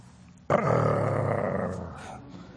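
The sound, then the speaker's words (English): A person's voice imitates a dog growling while gnawing an old dried bone as someone reaches to take it: one loud, rough, rumbling snarl that starts abruptly, holds for about a second and a half, then fades out. It is heard alone. “He growled at me, and I reached out.”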